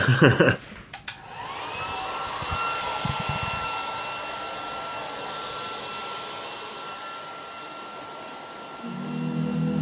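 A hair dryer switches on with a brief clatter, then blows steadily with a loud whooshing roar and a high whine running underneath, until a low hum comes in near the end.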